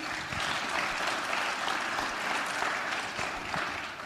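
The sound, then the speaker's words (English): A crowd claps steadily for three women being introduced, a dense, even patter of many hands that holds at a constant moderate level for the whole few seconds, with no voices standing out. “So let's give them a big clap.”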